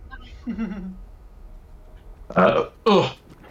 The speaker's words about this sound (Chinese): 完了，我喝打嗝了， 我已经要吐出来了。